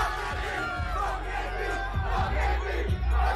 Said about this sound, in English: This is Juju Smith-Schuster and his boy and about 40 other high schoolers dancing while yelling, fuck AB.